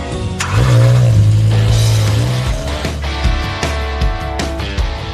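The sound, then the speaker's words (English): A car engine roars loudly, revving up with a deep, steady rumble as the vehicle drives along a freeway in Los Angeles. Hemanth, Mark and Arvind take turns at the wheel, testing rented cars and collecting data with their own emissions testing setup. The sound is continuous throughout with no voices. “By late 2012, Hemanth, Mark and Arvind are barreling down the freeway in LA, taking turns at the wheel, testing out cars and collecting data.”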